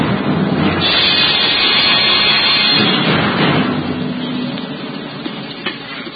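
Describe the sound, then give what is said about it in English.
A raging night storm wind around the rugged battlements of the castle of Cedric roars without pause, a dense, rumbling rush that surges loudest early on and eases slightly later, with a brief sharp gust or crack near the end. No voices. “Aye, the storm that raged that night around the rugged battlements of the castle of Cedric reflected well the tempestuous temper of the times.”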